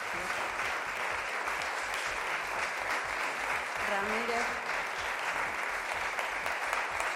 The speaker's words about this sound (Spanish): Un aplauso para cuando se ha dicho el nombre de Carles Puigdemont, pero no sabemos qué es lo que ha votado.